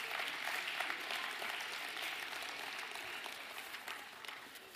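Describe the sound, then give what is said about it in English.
A church audience applauds steadily as the children are dismissed to kids' church, a dense wash of many hands clapping at an even level for several seconds with no voices standing out. “So, with a big round of applause, kids' church is dismissed out the back end.”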